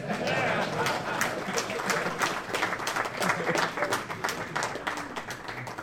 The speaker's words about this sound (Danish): Og så klappes der.